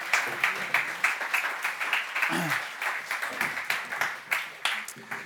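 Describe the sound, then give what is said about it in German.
A crowd claps steadily and warmly, a dense patter of many hands with sharper individual claps standing out, while a voice briefly murmurs underneath partway through. “Kommt mir herzlichen Applaus für sie mit einem warmen Applaus.”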